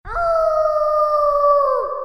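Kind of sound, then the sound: animal, wolf howling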